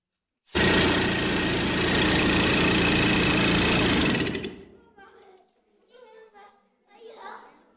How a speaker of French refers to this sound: Le puits va être creusé à l'aide des machines qu'on a ici, qu'on appelle les marteaux perforateurs. Attention les oreilles, les enfants !